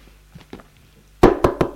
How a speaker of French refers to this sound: on frappe à la porte.